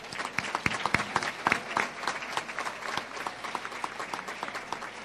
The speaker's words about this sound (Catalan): Un fort aplaudiment.